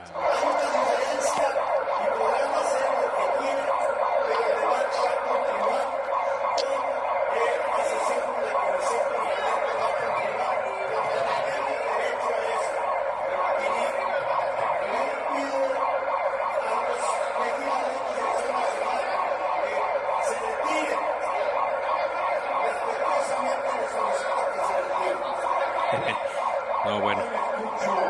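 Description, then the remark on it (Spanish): Loud sirens blare without pause for the whole stretch in a legislative session chamber, a dense, piercing wail that fills the space while voices are faintly audible beneath the din. “Se dejaron escuchar de esta manera las sirenas en el pleno salón de sesiones.”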